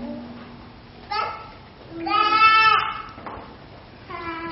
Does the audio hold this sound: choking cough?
no